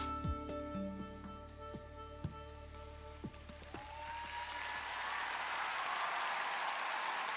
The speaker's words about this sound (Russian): Ваши аплодисменты. Судья фестиваля Игорь Крутой и Анна Егоян. Одна из самых популярных современных поэтесс и чтецов России. Больше, больше, больше аплодисментов!